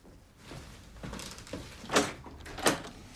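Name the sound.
front door being opened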